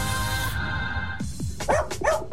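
A dog barks several times in quick succession, short sharp yaps following a steady tonal hum that cuts off abruptly. The barks are fairly loud, with no voices.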